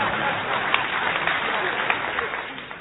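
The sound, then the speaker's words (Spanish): A steady patter of audience applause, many hands clapping at once in a dense, even wash that holds at a moderate level for the whole few seconds, with occasional sharper claps standing out. “Sí, puede aplaudir, señor, ya que tiene ganas.”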